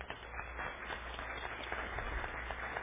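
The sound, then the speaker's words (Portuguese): A crowd breaks into a steady round of applause, many hands clapping in a dense, crackling wash that holds at an even level throughout, with no voices standing out. “Uma salva de palmas para minha família maravilhosa.”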